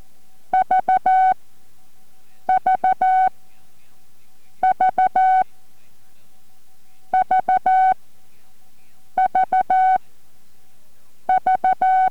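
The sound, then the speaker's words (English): Morse code letter V sent six times at the start of a novice 5-word-per-minute sample examination: each group is three short beeps followed by one longer beep in a steady mid-pitched tone, with even pauses between groups and no talking. “Remember, all exams start with the letter V sent 6 times.”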